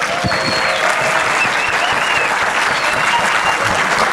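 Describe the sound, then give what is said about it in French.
A cinema audience at the Les 400 coups cinema applauds at the launch evening of season 10 of Les plans cultes and its 10th anniversary: a dense, loud wash of many hands clapping with no pauses and faint whistles riding over the top. “Bonsoir, bienvenue au cinéma Les 400 coups pour une soirée événement exceptionnelle, le lancement de la saison 10 des plans cultes et de ses 10 ans, donc on peut applaudir.”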